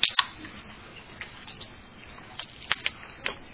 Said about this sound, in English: Before that, I'm going to get a drink of water.